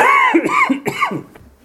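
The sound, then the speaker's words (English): A few voiced coughs in quick succession, throaty and fairly loud, trailing off into a quieter breathy sound at the end. “Time for my first cough drop.”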